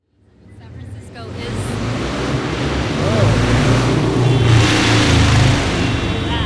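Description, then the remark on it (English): A loud old-school motorcycle engine roars in from silence and revs hard as it passes a parklet, its rumbling growl swelling and staying heavy and harsh for several seconds. “I think that guy was an easy rider. That was like a, an old school. It was so loud it set off car alarms.”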